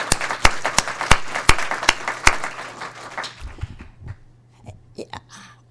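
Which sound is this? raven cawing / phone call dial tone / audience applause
audience applause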